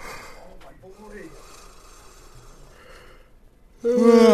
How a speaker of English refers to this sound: Sorry for everyone who's yawning now in their car on their commute.